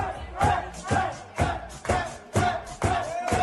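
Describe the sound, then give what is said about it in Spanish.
Getafe football players celebrate a win in their locker room, the men chanting loudly together in an echoing space, rhythmic shouted bursts roughly every half second, with rowdy celebratory energy. “Fiesta ayer en el vestuario con tres puntitos más en el bolsillo de Gené y de todos los demás.”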